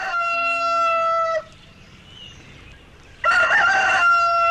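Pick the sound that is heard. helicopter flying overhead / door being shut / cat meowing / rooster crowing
rooster crowing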